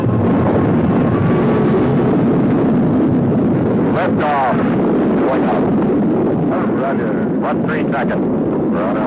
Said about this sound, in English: Engine start. Ignition.